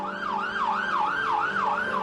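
A distant siren wails in rapid rising-and-falling sweeps, steady and continuous over a low engine hum, heard on 19 August 2003 while someone writes at a computer. No one speaks.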